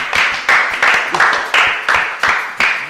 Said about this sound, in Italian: Un applauso.